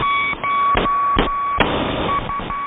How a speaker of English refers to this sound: Number stations have been around since the First World War. Back then, these numeric messages were often sent using Morse code.